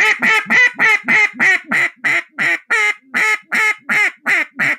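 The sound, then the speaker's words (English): A duck call blown as a comeback call, a more excited hail call used to bring circling ducks back: about thirteen loud, raspy quacks in quick, steady rhythm, each with a slight downward break in pitch, with no voices. “So hail call or comeback call may sound.”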